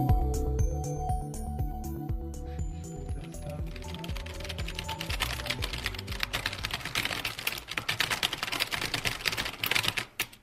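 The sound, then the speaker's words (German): Rapid clicking of fingers typing on a computer keyboard, a dense, continuous patter of crisp keystrokes rising out of a fading musical passage and continuing steadily to the end. “Das Werkzeug des Wissenschaftlers ist in der heutigen Zeit die Tastatur.”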